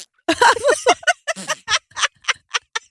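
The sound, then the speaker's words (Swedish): A voice imitates a sharp fart: a short buzzing, voiced squeal followed by a string of about eight quick, sputtering bursts in an uneven rhythm, fairly loud with no talking. “En spetsig fis här.”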